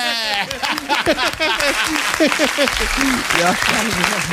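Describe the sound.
Steady, dense applause from a crowd runs for several seconds, with voices cheering and talking over the clapping throughout.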